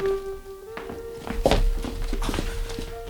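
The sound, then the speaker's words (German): A hotel room door opens with a solid thunk and a few scraping knocks, over a steady low hum with a faint tonal drone in the background; footstep-like taps follow. “Dann endlich öffnete sich die Tür.”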